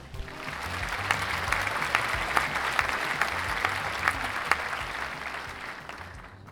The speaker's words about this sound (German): Ich verabschiede mich und bitte nochmals um einen tosenden Applaus für Lukas Kranach.